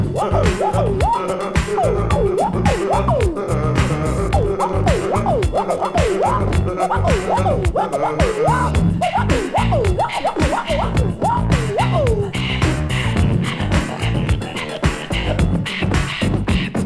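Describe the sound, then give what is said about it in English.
A steady, loud beatbox groove of punchy vocal kicks and snares, with wavering, siren-like wails imitated by mouth over the beat for much of the time before the wails drop out. “Just listen to the beatbox he will play.”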